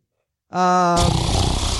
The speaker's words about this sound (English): Oh, and a snore apparently.